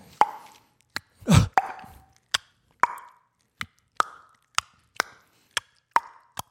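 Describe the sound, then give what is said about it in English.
A series of about nine sharp, hollow tongue pops from suction on the palate, each a crisp resonant click spaced at a steady pace, with one louder breathy thump early on and no talking. “your tongue makes a suction on top and you just gotta make it super strong.”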